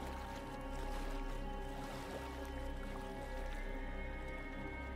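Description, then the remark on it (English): A small boat churns steadily through flood water, its engine droning low and constant beneath splashing and sloshing, with a slow pulsing rhythm and no voices. “It's evening, and the captain docks the boat next to a hill.”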